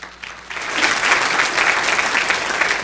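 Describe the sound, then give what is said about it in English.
An audience at a Teen Challenge event breaks into steady applause, the clapping swelling quickly after a quiet start and holding as a dense, sustained patter of many hands. “You know, I'd really like to see if I can get the applause before, because I don't know if we're going to get it after.”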